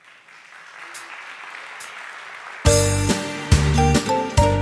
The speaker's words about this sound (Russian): Пусть все аплодисменты сегодня будут для них.